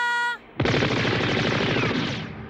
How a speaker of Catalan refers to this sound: Un munt de trets impacten a terra. Arrenca a córrer amb els dos helicòpters als talons.